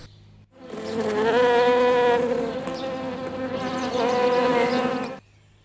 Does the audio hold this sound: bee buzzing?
yes